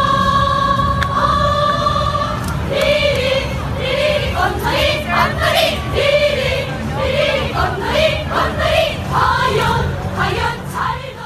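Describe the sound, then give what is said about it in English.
The North Korean cheer squad at the games: a large group of voices chants and sings in unison, loud and steady, with rhythmic bursts and sustained melodic notes over a constant crowd hum. “Why don't we start with the North Korean cheer squad first, and let's listen to a little clip of them in action.”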